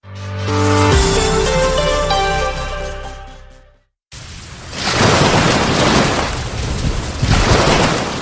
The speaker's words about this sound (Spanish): Ese sonido del mar, claro, porque justo estamos al borde del mar Mediterráneo. Estoy en ese punto donde la ola choca contra la arena. Me encuentro en la población de Vilassar de Mar, en la provincia de Barcelona, en la zona del Maresme.